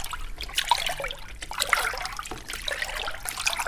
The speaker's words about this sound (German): Der Wolf sprang ins Meer und paddelte den Geruch nach.